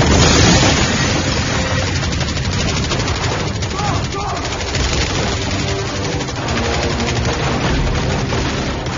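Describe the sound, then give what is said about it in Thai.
Loud, dense bursts of rapid gunfire and booming blasts fill the whole stretch, a continuous barrage of combat from the action film The Expendables 2, with a rumbling low end and no pauses. “Expendable 2ยิงกันตูมตามลั่นสนั่นจอโดยที่ไม่ต้องมีบทพูดกันเท่าไหร่”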